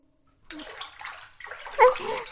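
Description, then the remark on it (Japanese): Hot water is scooped into a hand pail before washing someone's body, with sloshing and splashing that swells briefly near the end before settling into a steady trickle. No one speaks. “まずは、手桶にお湯を汲んで。”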